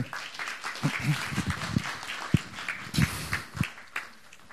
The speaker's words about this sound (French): Merci beaucoup à tous. On les applaudit.